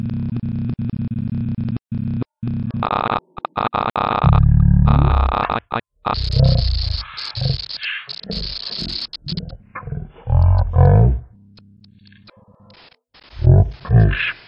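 A voice played back extremely slowly and pitched very deep as the right arrow key is held down to move forward through a recording, with screen-reader feedback, chopped into stuttering, growl-like fragments with abrupt cuts and brief silences between bursts.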